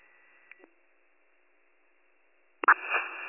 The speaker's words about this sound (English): I'm sorry, your radio is completely static.